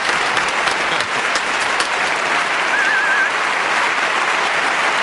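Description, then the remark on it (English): Steady audience applause fills the whole stretch, a dense, even wash of many hands clapping at a consistent loudness with no voices over it. “You can applaud”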